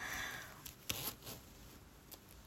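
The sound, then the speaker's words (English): Fumbling with a clothing zipper: a few quiet, raspy clicks and short scraping bursts, uneven in rhythm, with soft rustling of fabric in between and no voices. “Fumbling with your zipper.”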